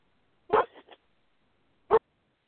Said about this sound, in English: What do we got? We got a dog in the bathroom.